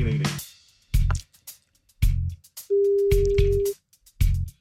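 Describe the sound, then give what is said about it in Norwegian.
A telephone ringing tone sounds once as NRK Radio places a wake-up call to a listener, a steady, clear beep lasting about a second, surrounded by rhythmic, punchy thumps roughly once per second. “men vi får ringe vel.”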